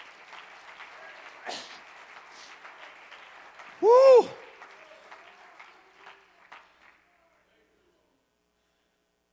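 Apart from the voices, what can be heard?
audience clapping hands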